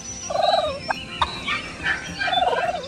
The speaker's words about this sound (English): This week on Discover Nature, listen for wild turkeys gobbling in Missouri's woods and grasslands. This popular game bird, once a contender for our national bird, makes many other vocal sounds as well.